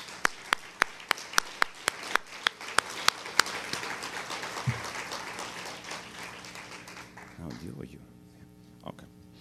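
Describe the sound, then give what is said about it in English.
An audience breaks into a round of applause for a summit committee, with a few sharp claps keeping a steady rhythm over the crowd's clapping before it gradually fades into background murmur. “So please stand up. You know who you are, so we can give them a round of applause.”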